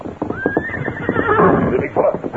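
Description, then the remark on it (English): A horse whinnies loudly, its neigh rising and wavering, while hooves clip-clop in an uneven rhythm underneath. “Good thing we not unsaddle horses yet.”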